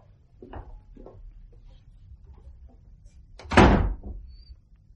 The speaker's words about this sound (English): The door unlocked, the entrance of a stranger, the offer of alms, and the shark in the harbour.